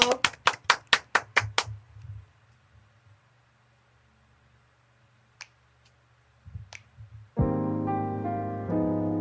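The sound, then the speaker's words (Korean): A quick run of about nine sharp hand claps in an even rhythm, fading off into near silence with a couple of faint clicks before loud music suddenly starts. “어, 그럼 박수를 한번 쳐보도록 네.”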